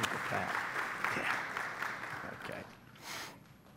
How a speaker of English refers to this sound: Could we give them a hand? Can you clap?